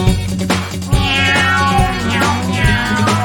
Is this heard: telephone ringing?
no